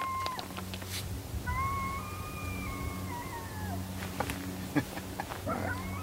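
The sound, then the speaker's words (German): A coyote sitting on the other side of a canyon lets out one long, wavering howl that glides up and then slowly falls, set against a steady low background rumble with a few faint clicks and short yips. “Ein Kojote heult.”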